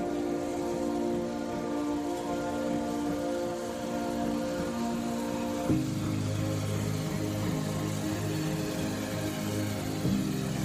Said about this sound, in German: Der Zug rollt langsam im Bahnhof Pinhão ein.